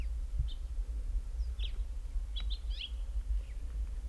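A bird's diving display recorded on March 25, 2008 at a bend in the wash at Boyd Deep Canyon Natural History Reserve: short, high, sharp chirps and squeaks scattered across a few seconds, with a quick cluster in the middle, over a steady low rumble with no talking.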